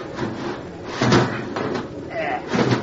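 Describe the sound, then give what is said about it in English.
A heavy watertight door to the next compartment aft is wrenched open with a loud metallic clunk, followed by a second thud near the end, against a rough, noisy background with voices. “Here, give me a hand with this watertight door.”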